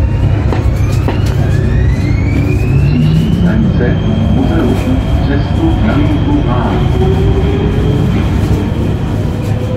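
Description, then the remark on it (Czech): A Prague metro line C train runs loudly and steadily, with dense low rumble, rising and falling electric motor whines, and squealing tones over continuous track noise, constant throughout. “Už to taky jede, takže já vám tímto poděkuji za pozornost a nechte se spolu se mnou linkou pražského metra C odvést k dalšímu příspěvku.”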